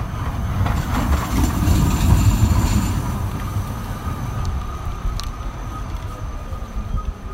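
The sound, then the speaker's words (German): Steady urban traffic rumble of cars and trams on Riebeckplatz in Halle, Germany, with a tram's heavy rolling and faint rail squeals over a busy street noise bed, loudest early and then easing slightly. No one speaks. “Hinter uns hört ihr Autos und Straßenbahnen.”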